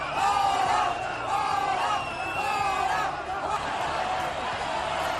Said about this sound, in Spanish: Gritos de fuera fuera, gritos de queremos votar, cuando se supone que era una manifestación de apoyo a las víctimas y de condena a los atentados de Cambrils y de las Ramblas.